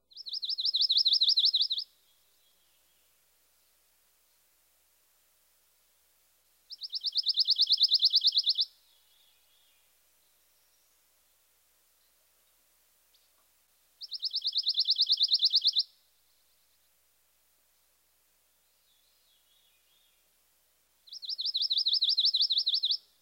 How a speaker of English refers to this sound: Our final species is the pine warbler. He also has a musical trill. However, the notes are loosely strung together.